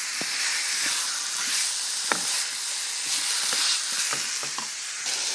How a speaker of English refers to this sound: Well, this has been stir frying for a couple of minutes. Just brown those off,